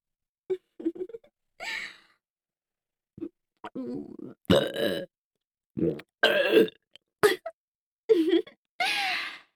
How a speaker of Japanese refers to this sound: 最初は女性の恥ずかしいところを見るのが好きなだけだったのに、いつの間にかこじらせちゃって、女性のゲップ大好きになっちゃったんですよね。